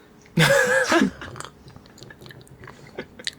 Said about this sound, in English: I'm now going to take my first sip of this posset.